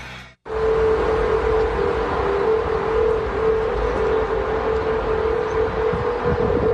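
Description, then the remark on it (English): Golden Gate Bridge humming in the wind: a steady, sustained mid-pitched drone that holds one note throughout, layered over loud rumbling gusts, starting after a brief moment of quiet. “Somebody brought some audio equipment, said, wait a second, the Golden Gate Bridge is humming.”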